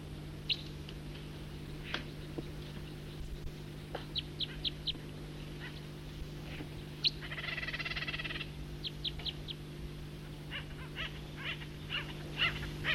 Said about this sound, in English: And there are acorn woodpeckers and stellar jays in here.